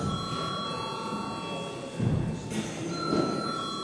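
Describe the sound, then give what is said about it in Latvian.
A session bell rings continuously for several seconds in a Latvian parliamentary sitting, calling deputies to register a quorum. It is a steady, high-pitched electric tone held without pause, with a low murmur of voices and shuffling underneath. “Lūdzu zvanu.”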